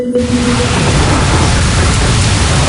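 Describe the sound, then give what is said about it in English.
Heavy rain pours down in a loud, steady, dense hiss that fills the whole stretch without letting up, enveloping, with no voices. “Don't wait for the rain to start bucketing down.”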